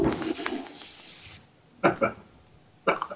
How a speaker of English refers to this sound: So I'm cracking open a Dallas Sucks. It's a pale ale. It's from Weyerbacher. I love that it says product of the USA. It's 4.5% pale ale. It was made for tailgating. So Dallas Sucks pale ale is now going into my glass.